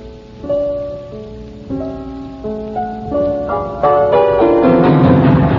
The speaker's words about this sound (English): Oh, won't it ever stop raining?